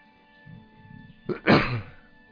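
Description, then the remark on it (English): A single loud sneeze: a quick sharp intake followed by an explosive breathy burst that trails off, with a faint low murmur just before it. “Now that was a nice sneeze, wasn't it?”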